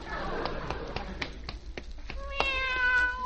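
A fat cat lets out one drawn-out, high meow near the end, after a stretch of light, irregular tapping clicks over a steady background hiss.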